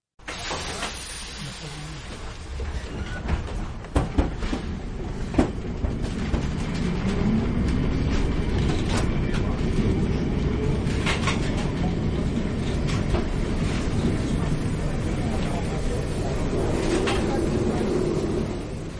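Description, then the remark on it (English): A Lisbon tram on the number 28 route rumbles steadily along the rails with sharp clacks and knocks scattered throughout, a continuous low mechanical drone heard from on board, with faint background voices. “She took me on the number 28 tram route on a tour of the city.”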